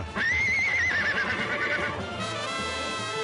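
A horse whinnies loudly, a wavering high-pitched neigh lasting a couple of seconds, followed by a lower snorting tail with a steady background underneath.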